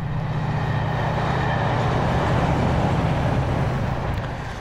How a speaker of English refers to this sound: The famous Rush Cutters trains there. Regular listeners will know all about those.